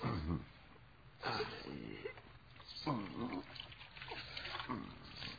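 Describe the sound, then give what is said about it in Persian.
Water splashes steadily as it is poured from a clay bowl over hands to wash them, a continuous trickling wash, with a few brief voiced sounds breaking through now and then. “اینجا یک کاسه سفالی هست، اون بیفته میشکنه، ولی مس نه. با همین کاسه سفالی آب بریزم دستاتونو بشوره.”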